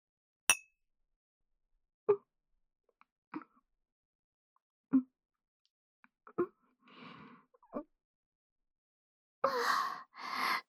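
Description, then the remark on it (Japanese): A single bright glass clink as milk bottles touch in a toast after a bath, followed by a series of soft, spaced gulping swallows as fruit milk is drunk, then a breathy exhale and a louder rushing sigh at the end. “私はいつも飲んでるので、今日はフルーツ牛乳にしましたけど、せっかくなので、一緒に乾杯とかしちゃいます？”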